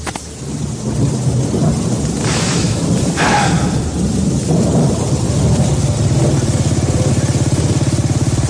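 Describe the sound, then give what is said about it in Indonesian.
Steady heavy rain with deep rumbling thunder rolling underneath, loud, with a brief brighter crackle midway and a low engine-like drone toward the end. No voices. “Membuatku harus hujan-hujanan mencari lagi alamatnya.”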